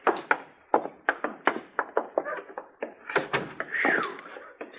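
A busy run of metallic clicks and rattles like a key working a lock, followed by a short creak as a door swings open. No one speaks.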